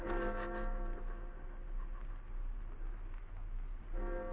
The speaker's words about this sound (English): The town clock struck 2.